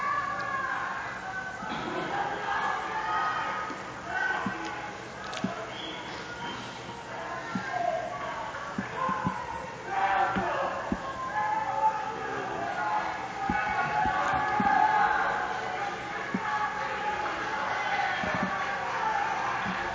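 A crowd of protesters shouts at a demonstration in Piazza Limonda, many voices merging into a steady, fairly loud roar that swells and dips for the full twenty seconds, with sharper individual cries breaking through.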